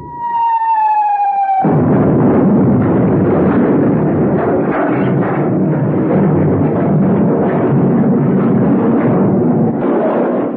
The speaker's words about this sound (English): Hey, that wasn't a humming noise. That was a whistle and a bang. Go quick. Turn that thing off. Someone's shooting at us.